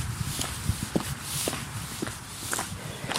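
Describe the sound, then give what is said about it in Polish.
Steady footsteps walking outdoors at an even pace toward a windmill from Zygmuntów at a museum, each step a soft crunch on a rough path, against a low background hiss with no one speaking. “I jeszcze parę kroków i jesteśmy przy wiatraku z Zygmuntowa.”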